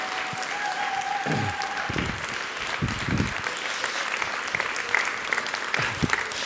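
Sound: audience applause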